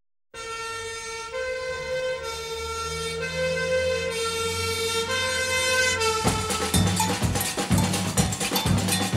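A loud fire siren blares at night in Rio in sustained, steady tones that shift pitch in steps, calling all the firefighters to a fire, and in the last few seconds rapid metallic clanging joins it. No one speaks.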